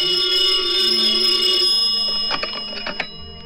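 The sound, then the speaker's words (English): A telephone rings late at night with a bright, high-pitched, steady bell tone for over a second, then cuts off and gives way to a few short clattering clicks, like a receiver being picked up. “One night, very late, I got the frantic phone call from Linda.”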